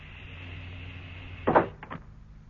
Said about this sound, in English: Well, that's the air pumped out. Now to break the vacuum.